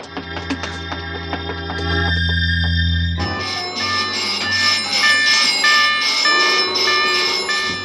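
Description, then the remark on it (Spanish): Loud alarm bells ring continuously in rapid, harsh pulses through a refuge as someone approaches, joined midway by a shrill electronic alarm tone that warbles over a low hum, with no voices. “El ensordecedor estruendo de alarmas se extiende de nuevo por el refugio, pero esta vez con un acento de angustia, de agonía.”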